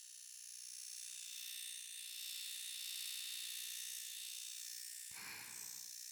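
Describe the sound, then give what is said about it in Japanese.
An electric shaver shaving the fine hair on an ear hums steadily, a continuous high buzzing that carries through the whole stretch, with a brief rumbling scrape near the end as it presses against the ear. “はーい、それではお次は耳の産毛を剃っていきますね。”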